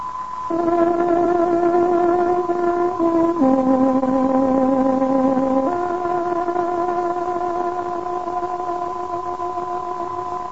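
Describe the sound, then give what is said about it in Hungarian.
A tárogató plays a short, steady melody of sustained reedy notes as the 21:00 time signal of Radio Free Europe's Hungarian service on shortwave, stepping between a few pitches over a constant broadcast hum, with no voices. “Tárogatónk 21 órát jelez.”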